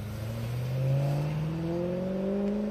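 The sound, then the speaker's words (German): A car engine accelerates steadily, its pitch climbing smoothly over a few seconds, as BMW, Mini and Rolls-Royce cars roll off the production line at plants in Great Britain. The motor sounds fairly loud, with no one speaking. “Autos der Marken BMW, Mini und Rolls-Royce rollen auch in Großbritannien vom Band.”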